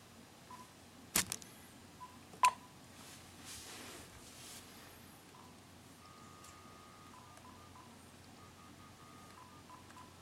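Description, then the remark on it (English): Telephone touch-tone dialing: a few short beeps and two sharp clicks early on, then a longer run of steady, slightly shifting mid-pitched tones, all fairly faint over a low hiss with no talking. “Dial right back and see if that takes care of your beep.”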